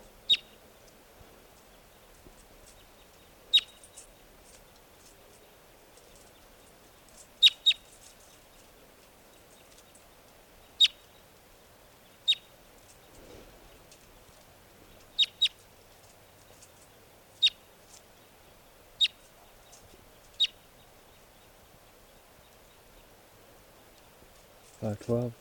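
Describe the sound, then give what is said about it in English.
A wild bird up in the trees near a net gives short, sharp, high-pitched chirps at irregular intervals, about a dozen calls over quiet background with no talking. “Recording the wild birds are still here, up in the trees near the net. This is one of them calling.”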